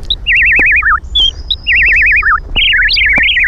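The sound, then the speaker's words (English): A bird in the woods sings clear, warbling phrases that repeat several times in quick succession, fairly loud, over a low outdoor rumble with occasional soft clicks. “Look, there's a bird's nest at the top of that tree.”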